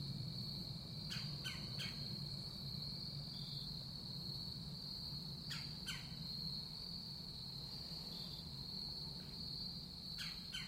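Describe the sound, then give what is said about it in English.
A steady, high cricket drone fills a quiet woodland, with short bird chirps breaking through in small bursts every few seconds over a low background rumble, recorded on two microphones clipped to a shirt. “Crickets and birds.”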